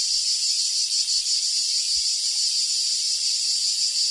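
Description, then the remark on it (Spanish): A cicada's shrill, continuous buzzing drone fills the whole stretch, steady and fairly loud with slight pulsing, and no voices or other sounds alongside it. “El cant de la Chicharra, música i desfici en UPV Radio.”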